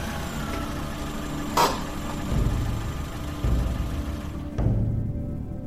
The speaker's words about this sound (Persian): با ماشین آوردم تو حیاط و اومدم تو خونه.